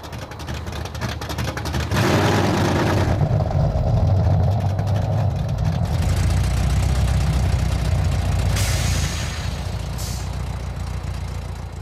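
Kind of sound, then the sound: vehicle, sports car engine idling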